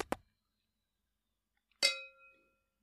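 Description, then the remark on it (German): Two quick dull taps, a pause, then a bright clink of glasses touching in a toast, its ringing tone fading slowly. Clear, with no voices. “So, darauf trinken wir jetzt erstmal ein.”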